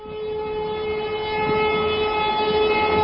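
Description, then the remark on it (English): A train bound for East Anglia rolls along steadily, a continuous rumbling clatter underneath a sustained, high droning tone that holds throughout and grows slightly louder. No one speaks. “An hour later, Featherstone and I, our briefs open on our knees, sat on a train bound for the wastes of East Anglia.”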